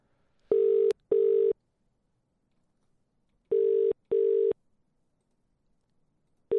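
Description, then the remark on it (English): A phone ringing out on the line: a steady tone in paired short bursts, a long pause, then the pair again, clear with no one speaking. “I don't know if this is a breach of contract to call him, but let's do it now.”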